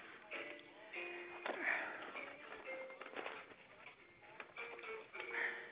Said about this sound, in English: Just a second. I got to blow my nose just a second.